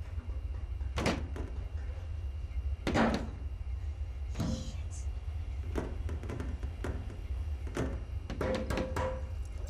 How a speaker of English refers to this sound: She tries to open the patio door between the kitchen and the lounge.